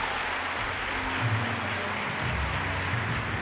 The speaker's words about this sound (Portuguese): Agora você pode aplaudir que acabou.